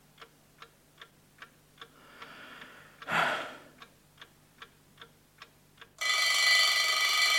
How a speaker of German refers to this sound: Na also. Es war gekommen. Es war der Wecker auf dem Nachttischchen. Auf ihn hatte ich gewartet. Das Weckwerk war, wie ich am Abend zuvor festgestellt hatte, auf 7 Uhr gestellt. Und Punkt 7 Uhr hatte der Wecker geschellt.